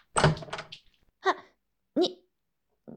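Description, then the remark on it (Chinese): A door swings open with a short clunk and rattle, then a person lets out two brief startled vocal exclamations amid otherwise quiet surroundings. “打开门看看。”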